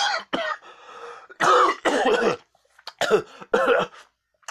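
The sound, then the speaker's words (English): A voice acts out sputtering and spitting out a non-alcoholic drink on stage, then breaks into a run of loud, harsh coughs in uneven bursts with short pauses between them. “I spit out my drink and cough all over myself.”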